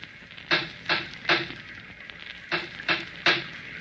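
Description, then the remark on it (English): Two sets of three firm knocks on the wooden door of an isolated villa in constant rain, evenly spaced, with a short pause between the sets. The knocks are fairly loud, with no voices. “I knocked on the door and then waited.”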